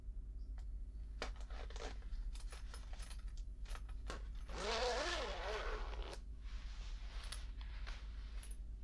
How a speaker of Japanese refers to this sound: 寒かったから、かじかんじゃって。お兄ちゃん、このチャック外して。手に力入んない。